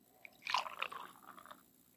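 Born Yesterday beer being poured into a glass: a short, fizzy, crackling splash lasting about a second, fairly quiet, with no one talking.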